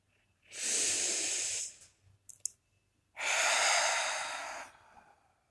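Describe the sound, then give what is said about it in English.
Two long, slow breaths, each a steady airy rush lasting over a second, separated by a short pause with faint mouth clicks. No one speaks. “I am breathing.”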